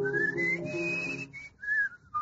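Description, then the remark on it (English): A person whistles a flowing classical overture melody, the clear pitched notes gliding and sustaining in a few phrases with brief pauses, with no talking. “Leonore by Beethoven. Leonore, yes. Number three, I think.”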